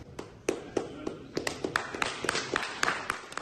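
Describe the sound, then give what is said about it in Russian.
The Russian delegation applauds itself in an assembly hall at the end of a speech by State Duma vice-speaker Pyotr Tolstoy, with sharp, uneven hand claps over a steady bed of softer clapping. The applause is fairly loud, and no one speaks. “Хлопки, которые вы услышали в конце этого выступления, это аплодисменты российской делегации самой себе.”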